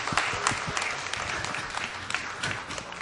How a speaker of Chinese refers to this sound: 好，大家请坐，演出到此告一段落，我们以热烈的掌声谢谢我们的演员，我们的歌唱者。